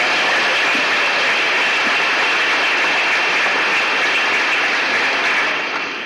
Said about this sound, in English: I hope, Mrs. Thatcher, that you can judge by our applause, our affection for you, and our belief in the policies that you preach.